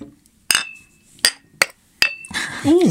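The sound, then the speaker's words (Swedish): Beer glasses clink together in a toast on a Friday evening down in a bunker, four sharp knocks at uneven intervals, some leaving a short bright ring, followed by a voice rising at the end. “Vi dricker ju faktiskt öl nu.”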